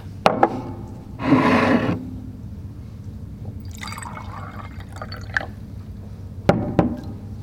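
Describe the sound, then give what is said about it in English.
A short splash of water being poured, set between sharp clicks and knocks of handling a glass or bottle, with a softer rustling patch in the middle; no talking. “So I'm just going to grab some water.”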